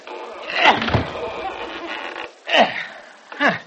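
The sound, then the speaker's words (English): A stuck door creaks and scrapes as it is forced open, with a long groaning strain followed by two shorter, sharp creaks. Fairly loud, with no talking. “Hey, let me try that door.”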